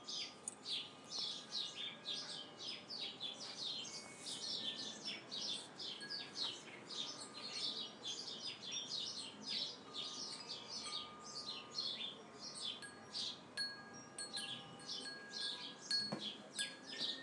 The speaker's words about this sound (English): I should know my way around here, but I don't. I don't know what kind of birds they are.